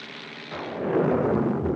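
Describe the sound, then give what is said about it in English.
An airplane engine drones steadily in flight high above a winding river, a loud, continuous low roar that swells slightly and stays constant throughout, with no voices. “now high above a winding river.”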